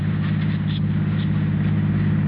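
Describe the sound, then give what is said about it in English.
A car engine runs steadily, a constant low droning hum with no change in pitch or speed throughout, heard on its own without any voices. “All right, just turn the car around and drive home.”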